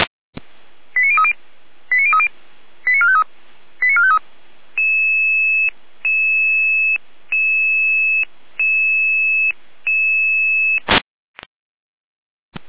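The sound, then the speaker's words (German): A pager alert tone sequence alerting emergency responders to a gas leak in a gas turbine hall in Rudolstadt: quick clusters of short electronic beeps, then a steady series of longer, evenly spaced tone pulses, ending in a brief harsh burst. Clear, with no voices. “Ihre Alarmierung.”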